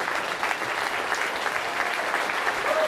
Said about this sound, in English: And we may have a mutual appreciation show going on here, but why don't we just give him a big round of applause for what he does? Yeah? Phenomenal. Really phenomenal. Yeah, it'd be good to stand up and give him that round of applause, you know?